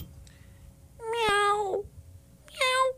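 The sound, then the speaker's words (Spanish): A cat meows twice, fairly loud: a long drawn-out meow that slides down at the end, then a shorter one after a brief pause, over faint background noise. “Miau.”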